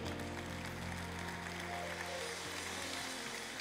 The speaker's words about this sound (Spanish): Aplausos a Cristo.